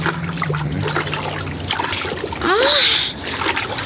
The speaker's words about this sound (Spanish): El gigante negro boga hasta acercarse a la orilla.